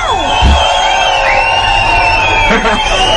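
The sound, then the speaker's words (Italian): A concert crowd on via Locatelli yelling and cheering, with a performer among them stirring them up, a dense, loud roar of many voices with rising and falling whoops and shouts layered over continuous babble. “… è in mezzo alla folla osannante e urlante.”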